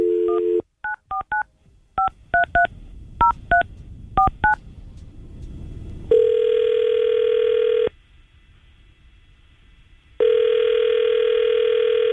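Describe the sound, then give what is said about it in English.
A brief dial tone gives way to a quick string of touch-tone beeps as radio station 995QIK's hosts dial a number for an on-air phone call, then two long, steady ringback tones sound with a gap between them. No one speaks. “All right, let's call Carl and see if we can get on the phone.”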